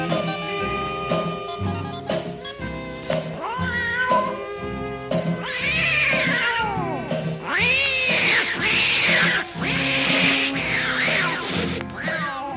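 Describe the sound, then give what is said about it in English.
Tomcats fight loudly at night, trading long rising and falling yowls and screeching caterwauls that overlap almost continuously for several seconds, harsh with a steady background beneath. “Now on that very same night, now that old tomcat started a fight. And this is the way it all did sound to me.”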